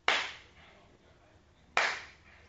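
Two sharp test hand claps spaced well apart, each a bright, loud crack that rings out and fades over about half a second, with quiet between them and no talking.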